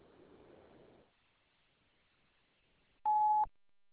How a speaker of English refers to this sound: Leave a message at the beep, and I'll get right back to you.